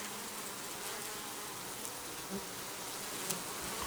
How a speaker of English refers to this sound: What kind of bees are these? Italian. No, seriously, they're Italian bees. The Italians, they say, are not as aggressive.